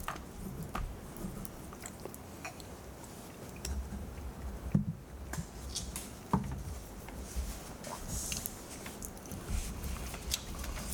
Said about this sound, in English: I don't get any kind of a sweetness or anything. And so the finish, let me take another sip.